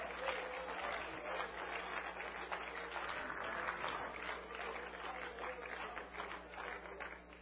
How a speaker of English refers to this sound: I'm going to be that man that makes the difference. Come on, let's clap our hands to the Lord and give Him praise.